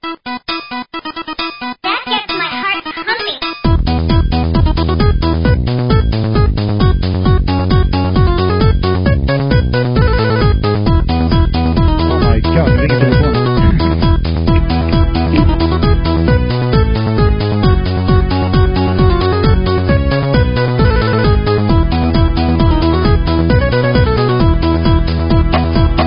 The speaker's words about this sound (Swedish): Kör en liten jingle då så länge.